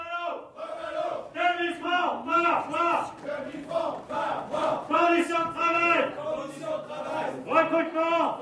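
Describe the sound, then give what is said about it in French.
A crowd shouts slogans in unison, loud rhythmic bursts of many voices rising and falling in repeated chanted phrases with no pause between them. “Je crie les slogans d'abord et vous répétez après moi!”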